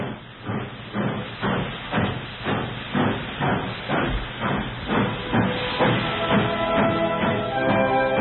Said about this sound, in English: The train's moving. Here, let me help you up the steps.